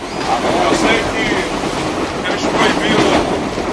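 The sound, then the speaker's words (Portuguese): Steady, loud rumble and rattling of a moving train carriage in Rio de Janeiro heard from inside, with a preacher's raised voice preaching continuously over the constant rolling noise. “A pregação dentro do trem, mas eu estou aqui dentro, não estou conseguindo, tem que pregar.”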